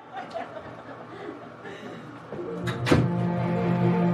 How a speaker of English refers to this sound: Stares in the mirror, removes something from his pocket, looks down and closes the door.